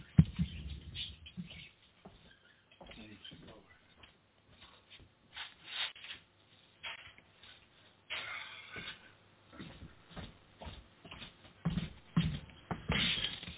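Pet birds chirp excitedly in quick, scattered bursts while their owner is on the radio, mixed with rustling and shuffling sounds as the bird is being covered. The chirps come and go irregularly at a moderate level, and no one is talking.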